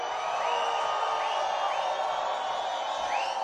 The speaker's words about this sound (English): And I want to hear everybody scream in this building so loud that we make the roof shake. Let me hear you scream.